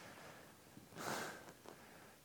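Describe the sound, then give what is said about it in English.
A short, breathy nasal sniff near the middle, followed by two quicker, fainter sniffs, all soft with no talking. “It's not the cold which disturbs you. Sniffing.”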